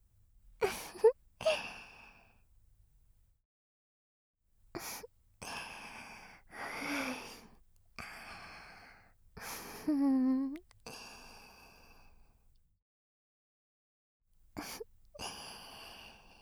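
Excited heavy breathing: loud, breathy sighs and sharp gasps come in uneven bursts separated by short silences, one drawn out into a voiced, moan-like exhale. Nobody speaks.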